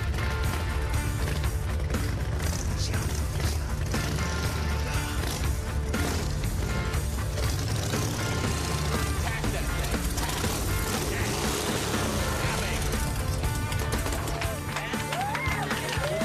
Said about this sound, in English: So we're outside Mark Burley's house. It's pretty cool. Senior is going to ride the bike in. Because I think I would crash it right now.